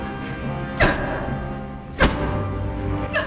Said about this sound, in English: Jack thumps Marion's chest.